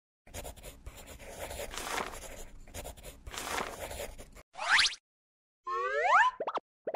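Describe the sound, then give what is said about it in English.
A pencil scratches and scribbles across a sketchbook in quick, close, rhythmic strokes for several seconds, followed by a few short, bouncy, springy cartoon sound effects. “Can I draw on your sketchbook?”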